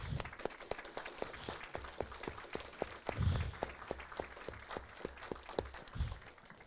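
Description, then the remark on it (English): An audience applauds prize winners steadily, many hands clapping in a dense, continuous patter with a few sharper individual claps standing out, moderately loud throughout and no talking. “We'll give them a round of applause.”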